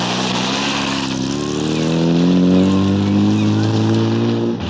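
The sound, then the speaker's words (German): A car engine revs loudly, its droning pitch climbing as the vehicle accelerates away, then holding a steady hum. No voices are heard. “Melanie stieg in ihren Wagen und fuhr los.”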